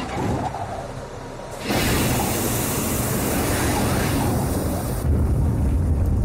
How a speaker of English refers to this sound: And the jetpack's 8 engines light up for about 40 seconds.